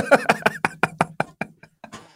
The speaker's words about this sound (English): I can hear your cutlery and crockery like banging in the background.